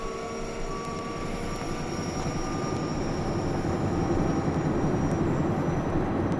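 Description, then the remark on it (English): The rotors of military recon helicopters whirl to life at first light in a heavy, continuous thrumming roar that holds steady and builds slightly louder toward the end, filling the scene, with no voices. “With first light, the rotors of our recon choppers whirl to life.”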